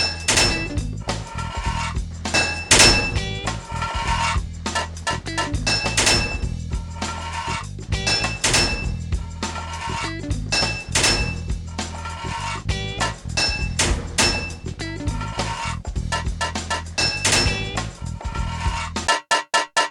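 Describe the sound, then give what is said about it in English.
In a pipe-fitting game, repeated hard, metallic hammer thunks strike a pipe to fit it, again and again in quick, uneven bursts, loud, over a low droning tone, with no one speaking. “2 hits of a hammer to fit a pipe.”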